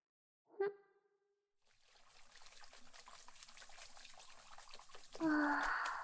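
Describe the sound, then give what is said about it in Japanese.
Water pours steadily in a rushing, splashing stream, rinsing shampoo foam off hair. A brief voiced sound comes just before it, and a louder, higher voice-like tone rises over the flow near the end. “じゃあ目を閉じとくけん、シャンプーの泡きれいに流してね。”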